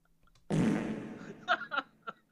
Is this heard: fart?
yes